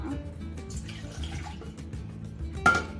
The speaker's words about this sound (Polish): Na początku wlewamy wodę do garnka.